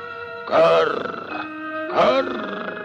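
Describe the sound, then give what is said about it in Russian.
A raven perched on a branch croaks twice, each call a rough, grating burst about a second apart, over a steady hum of sustained musical tones. “Это ворон мудрёно на ветке сидячи раскряхтелся, что дед досужий.”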